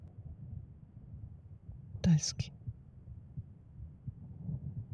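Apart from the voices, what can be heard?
pounding heartbeat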